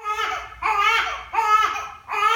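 A newborn baby girl cries in loud, repeated wails, four strained bursts in quick succession with brief catches of breath between them, with no talking.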